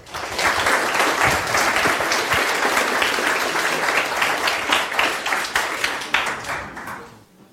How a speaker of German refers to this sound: Applaus für die Gruppe ….